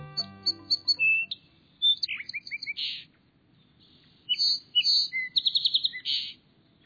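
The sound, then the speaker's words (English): A song sparrow sings two bright, varied phrases of spring song, with clear whistles, buzzy notes and quick trills, loud, with a short pause between them and no other sounds. “These clear spring notes belong to a bird celebrated for its singing, the song sparrow.”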